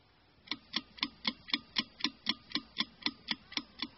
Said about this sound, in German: Und Uhr? Die Uhr.